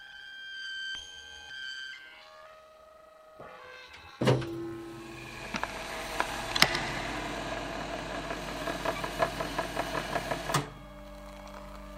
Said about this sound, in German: Dir ist, als hörtest du Fliegen summen. Aber du bist nicht sicher.